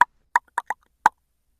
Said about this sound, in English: Snow White then moves to the door and politely knocks.